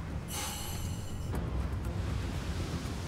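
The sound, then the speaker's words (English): Rough, stormy sea ambience from the TV show Deadliest Catch: a steady low roar of wind and churning waves, with a brief high whistling gust near the start, loud, no voices. The current crashes into the wind, stacking sharp waves of 15 to 25 feet. “And it's stacking these waves up to sharp, nasty 15 to 25 footers.”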